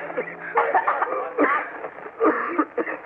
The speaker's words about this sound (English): Those terrible, racking coughs that seemed to be tearing him to pieces.